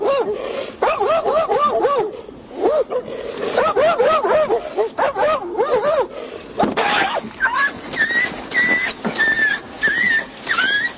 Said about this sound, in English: At some point, we've all been annoyed by a barking dog or a dog on the loose, and sometimes police are called in to handle these situations.